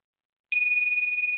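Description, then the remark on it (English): After a moment of silence, a bell is struck once and rings out with a bright, high, clear tone that holds steady and loud to the end, with no voices. “So whenever you feel that coming up, hear that bell.”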